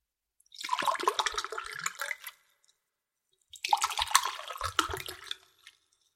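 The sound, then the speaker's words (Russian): A drink is poured twice, each splashing, gurgling stream of liquid lasting about two seconds with a brief pause between, clear with no voices. “Эх, жизнь! Наливай, что ли?”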